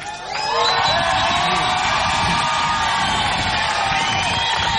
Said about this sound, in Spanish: Entonces primero, grito de los legales, los que están aquí acá adelante. Están adentro.